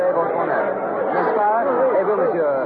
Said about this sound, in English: I'm standing approximately dead center of the Place de la Bastille, right in the very heart of this massive mob of people.